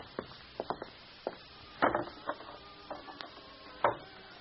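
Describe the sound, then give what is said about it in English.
Irregular footsteps thump and knock on wooden stairs as a woman climbs them at an uneven pace, with faint creaks of the boards between steps, moderately loud, with no talking. “you go right up those stairs.”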